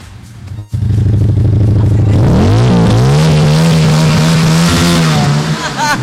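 A Titânio 250 custom-style motorcycle engine idles loudly, then revs up sharply with a rising, rough growl and holds at a high pitch before easing slightly.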